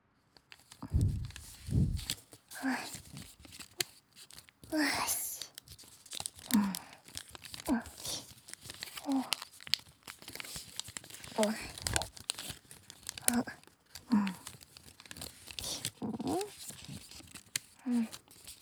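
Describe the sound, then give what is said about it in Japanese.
Origami paper being folded and its crease traced: soft papery swishes and crinkles repeating in a steady rhythm, each stroke brief and dry against a quiet background. “髪を折って、スーってなぞる音。落ち着ける気持ちのいい音だよね。”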